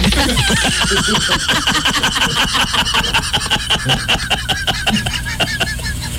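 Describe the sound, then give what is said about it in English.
Stage flying cables strain and creak in a steady run of harsh, rasping pulls, each stroke scraping and groaning at a loud, fairly even rhythm with no voices. “And listen to those cables.”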